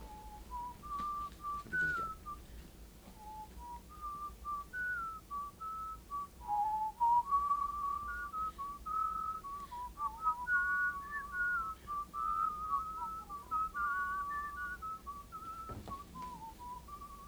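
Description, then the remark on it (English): A person whistles a simple tune, pure notes stepping up and down in a steady, unbroken melody for the whole stretch, moderately loud, with no talking over it. “Yeah, I want you to whistle.”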